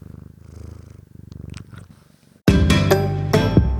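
A cat that has just jumped onto a desk purrs in a steady, rhythmic rumble, soft at first, then abruptly much louder for the last second or so, with a few faint clicks over it. No one speaks.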